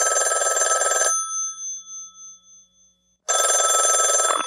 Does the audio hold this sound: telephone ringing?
yes